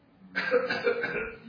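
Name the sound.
cough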